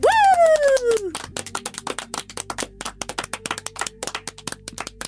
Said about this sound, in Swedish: Jag är jättebra på att applådera högt. Är du? Bra, gör. Vi kör en slutapplåd igen. Men en jättehård applåd.